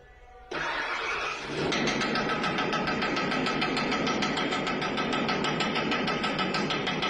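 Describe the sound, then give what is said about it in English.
A car engine is cranked to see if repairs have worked: it cranks for about a second, catches, and settles into a loud, steady running rumble with a rapid rhythmic pulse, with no talking. “is taking a wrench, and he's knocking the bumper to make it sound like there's a rattling noise happening as soon as they crank the engine on to see if their repairs have worked.”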